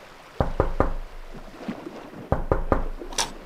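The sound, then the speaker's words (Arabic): Two sets of three sharp, loud knocks on a locked door that will not open, by a person locked in, separated by a short pause with faint rustling, ending with a lighter tap. “ايه ده؟ الباب مش بيفتح. ايه ده؟ انتم حابسني؟”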